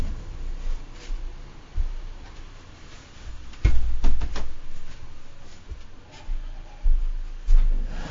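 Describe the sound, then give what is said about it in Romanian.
A door is pushed shut, with soft shuffling and handling noises around a sharp latch click and a couple of low thuds midway, then quiet rustling; no one speaks. “Stai să închid ușa.”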